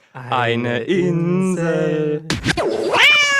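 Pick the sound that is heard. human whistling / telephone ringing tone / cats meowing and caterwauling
cats meowing and caterwauling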